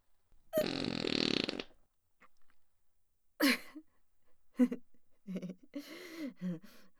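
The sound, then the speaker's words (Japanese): A loud, raspy fart blasts for about a second near the start, then silence, followed by a few short bursts of soft speech. “あなたの大好きなおならですよ。”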